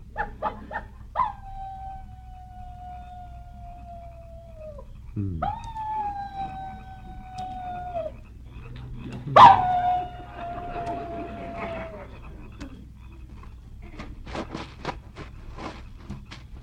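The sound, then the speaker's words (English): A human voice imitates a coyote's howl at a campsite with tents: three long, drawn-out wavering howls, each starting with a sharp rise and then holding a high, slowly sagging pitch, loud, over faint background noise. “How'd you like my imitation of a coyote?”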